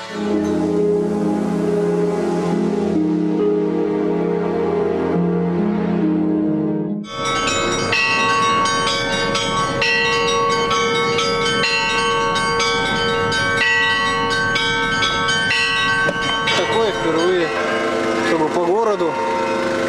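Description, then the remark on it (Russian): Orthodox church bells ring loudly and continuously after a service on the feast of the Triumph of Orthodoxy, a dense clangor of overlapping strikes and long resonant tones, following a brief opening of steady sustained ringing that swells into the full peal. “Километров пути через всю Россию из столицы на Сахалин везут колокола.”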